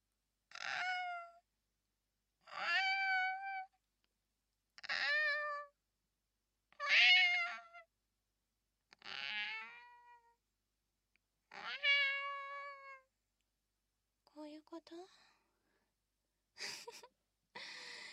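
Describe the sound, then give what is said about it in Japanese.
A person imitates a cat, giving about eight drawn-out meows at a steady pace, each separated by a short pause. The voice is clear, with no other sounds or talking. “猫？猫の真似をしてほしいの？”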